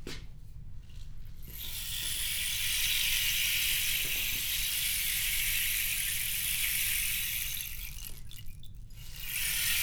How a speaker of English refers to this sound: Now remember, to make rain stick work, you gotta turn over. Turn over.